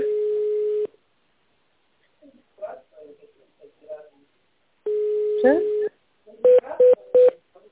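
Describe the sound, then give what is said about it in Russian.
A long steady electronic tone, a stretch of talking, then another held tone with a voice over it, followed by three short, evenly spaced keypad beeps, on a phone call to the company Promelektronika's automated line asking callers to dial an extension number or wait for an operator. “Наберите добавочный номер абонента или дождитесь ответа оператора.”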